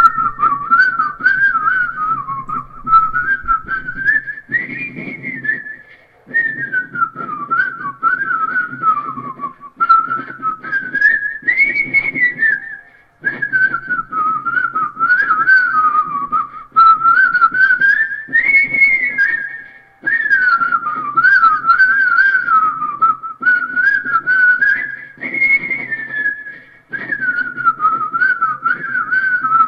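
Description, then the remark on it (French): A person whistles a cheerful, well-known Christmas tune, a continuous wavering melody in repeated phrases with brief breaths between them, clear with no talking. “qui sifflote les plus grands succès de Noël.”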